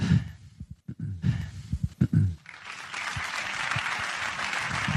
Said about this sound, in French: Des larmes et des applaudissements pour Diego Godin.